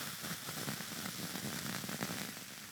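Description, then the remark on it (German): A steady, bright fizzing crackle of carbonated apple wine just poured into an apple wine glass (Apfelweinglas), a dense hiss of tiny pops at an even level throughout, with no voices. “Das bitzelt ganz ordentlich, ja? Komplette Kohlensäure rausgegossen für den Sound, aber okay, was tut man nicht alles?”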